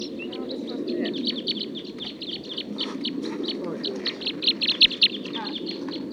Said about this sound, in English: Song of one of the wild birds.